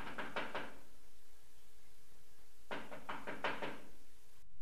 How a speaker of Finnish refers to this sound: Niin oli Hilma melkein järkeensä menettää, kun yhtenä syysaamuna oli lehdenjakaja tullut linjoille ja koputtanut Hilman ikkunaan.